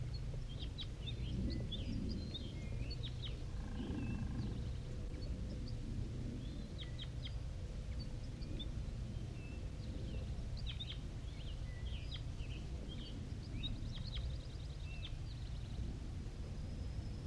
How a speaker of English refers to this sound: It's a wild bird.